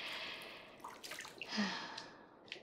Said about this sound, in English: Plus, you're gonna have to get used to this. It's normal to bathe regularly. Be you human or Neko. Here, I'll trickle the water down your skin.